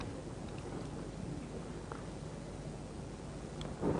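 Steady, dense rainfall hisses continuously with a deep low rumble underneath, like a storm close by, holding an even loudness throughout with no voices.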